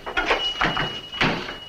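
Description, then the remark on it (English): A door shuts and a lock is turned as a man locks it behind a departing visitor, heard as a few short clacks and scrapes spaced over about a second and a half, with a faint steady hum underneath. “and locks it behind him.”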